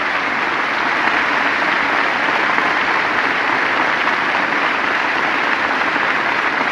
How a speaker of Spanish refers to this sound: un aplauso que se escuche hasta allá arriba, porque él también está hoy acá.